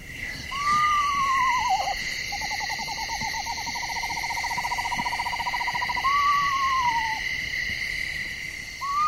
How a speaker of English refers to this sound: So I'm going to call the screech owl first. Here we go.